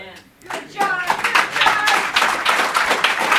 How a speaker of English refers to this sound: But we clap and I'm trying to get you to recognize we.